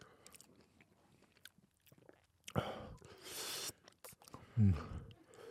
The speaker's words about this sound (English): I'm not even chewing the same. I'm chewing funny.